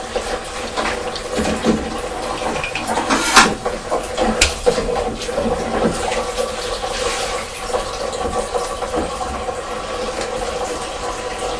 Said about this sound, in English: Is Mummy running some water?